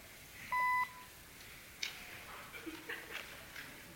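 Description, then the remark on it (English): A single short, loud electronic beep, a device's low-battery warning as its battery is about to go dead after being unplugged from the power source, sounds near the start, followed by quiet background shuffling and faint scattered noises. “I've got to take a second and see what's causing this beeping, or I'll just shut the whole thing down.”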